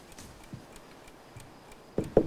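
Soft, steady ticks of a clock beside a bed in a darkened room, the clock reading 1:45, faint and evenly spaced, with the last couple of ticks sounding slightly louder.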